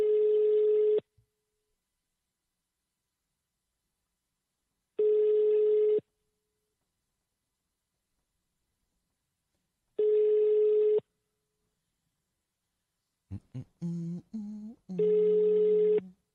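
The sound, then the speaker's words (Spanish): A steady telephone line tone sounds in one-second beeps repeating about every five seconds, clear, with a short burst of dialing-like tones near the end before the last beep. “Cuando la radio es el pito del teléfono.”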